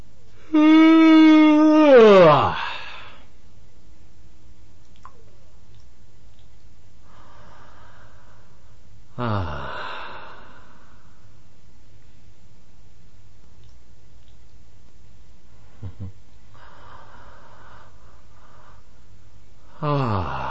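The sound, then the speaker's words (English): A loud, drawn-out yawn with a falling pitch opens, then two soft, spaced-out breaths follow, with a brief voiced exhale partway through, and then another yawn. “That was a yawn, two breaths, and another yawn.”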